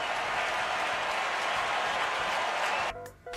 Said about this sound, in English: Crowd making some noise.